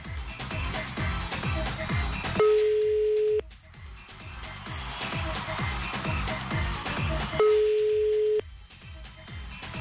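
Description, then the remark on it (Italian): A phone ringback tone sounds twice as radio hosts phone someone, each steady one-second tone separated by a long pause, heard clearly over rhythmic background music that plays throughout. “Ah, squilla, ecco. Squilleggia.”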